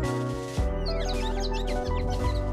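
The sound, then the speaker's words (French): Birds chirp and twitter outdoors at the protected natural site of Méjean in quick, overlapping high calls over a steady low rumble, starting faintly and becoming busier partway through. “Le bruit des oiseaux.”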